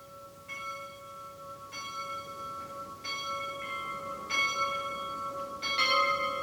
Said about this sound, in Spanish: Queden ustedes con Campanas en Europa, de Peter Leonhard Braun. Campanas en Europa. Una documentación estereofónica de Peter Leonhard Braun.